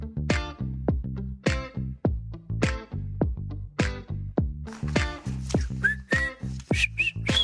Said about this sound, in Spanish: voy chiflando una canción y se las pregunto así de, a ver, ¿qué estoy chiflando?